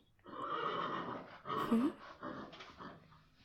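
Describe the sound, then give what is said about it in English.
A horse whinnies, a long, wavering neigh lasting a few seconds that rises in pitch midway, then tapers off into softer snorting sounds. “Wow, you have very beautiful horses.”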